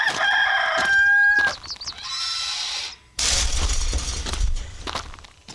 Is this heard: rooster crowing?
yes